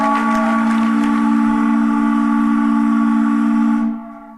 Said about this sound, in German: Das längste Nebelhorn der Welt.